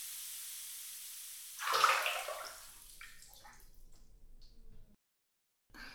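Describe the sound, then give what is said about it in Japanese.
Warm water is poured over feet in a broad rushing gush that peaks early, then trickles and drips unevenly before stopping; no one speaks. “ここからはふくらはぎにもお湯をかけていきますね。”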